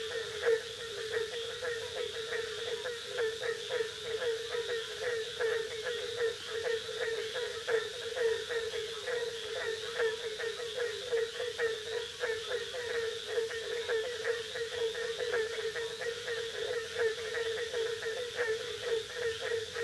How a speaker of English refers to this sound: This is often the earliest of the warm weather frogs to begin calling, and in mild winters, it may be heard as early February, even in northern Florida. From a distance, its explosive call sounds like a baying hound.